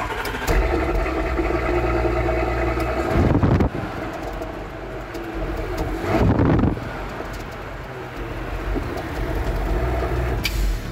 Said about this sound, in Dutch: Weet jij van welke auto je zojuist het geluid hoorde?